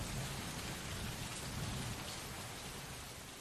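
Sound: cold rain falling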